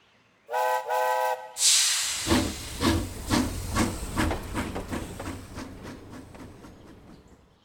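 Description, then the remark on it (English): A steam train gives two short whistle blasts, then releases a loud burst of hissing steam and starts chugging with a steady, rhythmic chuff that gradually fades. “Let's take a train.”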